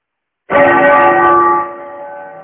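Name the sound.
temple bell ringing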